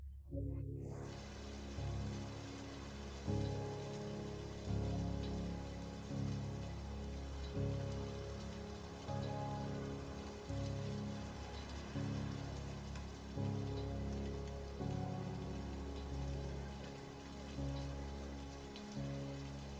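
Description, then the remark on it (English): Steady rain falls continuously in a dense, even hiss, fairly loud throughout, with soft low tones pulsing slowly underneath. No one speaks. “Soon you find a tunnel to take shelter in, and as you watch the rain fall without ceasing.”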